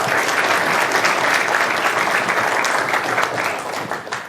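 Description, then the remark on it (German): An audience at a Chemnitz Linux User Group event claps for a speaker about to present Better FS, in a dense, continuous burst of applause that holds at full strength, then begins to thin and fade toward the end. No one speaks over it. “Bitte ein bisschen Applaus für ihn und dann können wir starten.”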